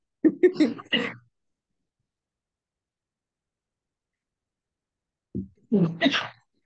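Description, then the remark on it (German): A short coughing fit: a rapid cluster of harsh coughs, then several seconds of silence before another rough burst of coughing and throat clearing. “Ich habe jetzt tagelang nicht mehr gehustet, ne?”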